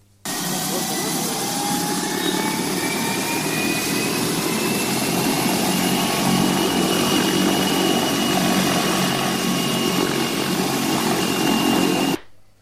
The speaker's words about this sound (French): Pour vous mettre dans l'ambiance, on vous fait écouter le bruit d'un hélicoptère de ce type au décollage.